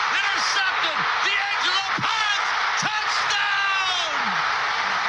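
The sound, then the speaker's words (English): A stadium crowd at Mercedes-Benz Stadium in Atlanta roars loudly and steadily after a touchdown in the Indiana versus Oregon college football game, a dense wash of cheering with shrill whistles and rising and falling whoops cutting through, and no clear voice speaking over it. “What a great crowd that is. Listen to that noise at Mercedes-Benz Stadium in Atlanta, where Indiana beat Oregon 56-22 to advance to the national championship game on the 19th.”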